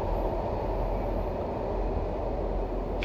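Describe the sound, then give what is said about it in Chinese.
A steady, low rumbling roar of a subway train in motion, heard from inside the car, continuous and even in loudness with no voices, filling the whole few seconds. “我今天下班在这地铁上逮了好几个人了”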